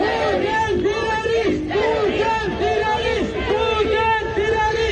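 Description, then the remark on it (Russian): A large crowd of Chechens at a rally in Oslo, Norway, holding Ichkeria flags, chants slogans in unison, including "Putin is a terrorist", loud and steady, with a rhythmic rise-and-fall cadence of shouted syllables repeating throughout. “В Осло, например, они держали флаги Ичкерии и скандировали лозунги, в их числе «Путин – террорист».”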